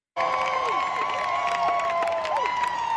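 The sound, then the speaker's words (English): A big concert crowd in Nashville cheers loudly and steadily, a dense roar of voices and clapping with shrill whistles sliding up and down through it, with no pauses. “There's a big crowd there to see him perform, and this is what he did.”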